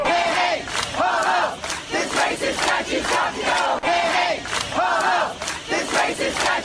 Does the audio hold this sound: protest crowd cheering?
yes